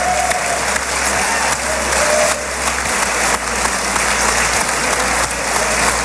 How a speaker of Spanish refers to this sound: Así aplaudía el Parlamento israelí a un Trump que ha querido viajar a Israel para observar en primera persona cómo fue la primera fase de su plan.